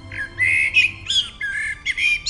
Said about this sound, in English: the rich, melodic song of the blackbird, one of the true stars of the dawn chorus. The blackbird is one of the first birds to begin singing each morning, during late spring and early summer, just as the very first glimmer of light appears in the sky.